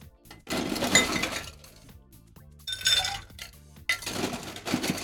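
Ice cubes tumble and clink into a highball glass in three quick bursts while making a grapefruit soda drink, bright rattling clatter, with brief quiet gaps between pours and no voices.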